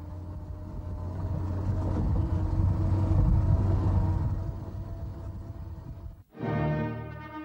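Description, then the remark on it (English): A heavy lorry engine of the 8th Road Army, carrying Times correspondent James Bert Rann hidden under rice bags on the road to Yan'an, rumbles steadily and loudly, a deep continuous drone, then abruptly cuts to another engine chugging with a faster, pulsing rhythm. No one speaks. “James Bert Rann, a correspondent of the Times, hid under rice bags in the lorry of the 8th Road Army when he traveled to Yan'an.”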